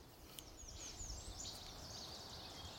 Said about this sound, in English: There's a veery calling in here. This bird going, peer, peer. That peer, that's a veery. It's a thrush related to our hermit thrush, our state bird.